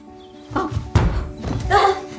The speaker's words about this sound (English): she trips and bangs her head against a dresser.